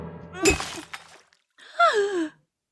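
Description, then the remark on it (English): A brief crash of a glass of water breaking with a splash of clatter, followed a moment later by a startled, sliding vocal cry or gasp. “Do watch out for the glass of water.”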